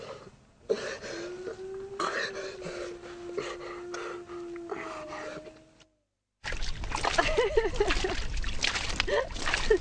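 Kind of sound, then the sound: household object, water sloshing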